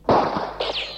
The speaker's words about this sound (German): Sie schießen! 4, 5, 6 Schüsse! Das ist ja eine richtige Schießerei!